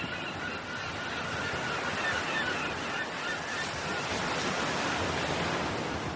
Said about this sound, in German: Überall um dich herum sind die Geräusche des Meeres und der Möwen. Friedvoll und rhythmisch.